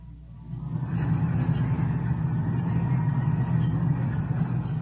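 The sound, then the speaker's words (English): Dense street traffic in Times Square at night, a steady low rumble of car and truck engines that swells after the first second and holds as a continuous, busy wash of noise. “There's a lot of action down there in Times Square tonight. You are hearing Times Square in action.”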